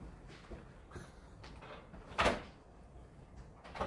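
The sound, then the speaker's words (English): A door opens as someone comes in, with a solid thump and rattle midway through, surrounded by a few softer knocks and clicks of handling. “This is on the way in. There's a door upstairs.”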